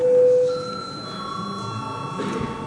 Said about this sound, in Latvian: Lūdzu zvanu. Lūdzu balsošanas režīmu.